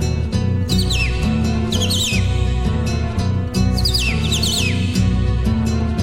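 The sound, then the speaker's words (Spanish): A cardinal's bright, sweeping whistled phrases ring out in three short bursts over a steady, loud instrumental music backing. “Canta el cardenal.”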